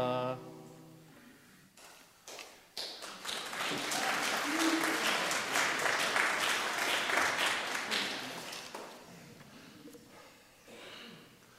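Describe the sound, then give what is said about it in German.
A sung note fades out as a song ends, then steady hand clapping builds and continues for several seconds, brisk, dense and fairly loud, before thinning out and trailing off at the end. “War das jetzt gut oder hast du nur aus Erleichterung geklatscht, weil das Lied zu Ende ist?”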